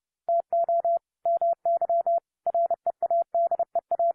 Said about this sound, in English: Now, when I'm hearing these dits and das, you know, if I'm a young person just learning Morse code, I'm really concentrating. How do these things sound to you? Do you hear them as different letters or do you hear them as words?